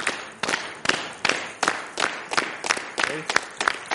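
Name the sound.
audience clapping along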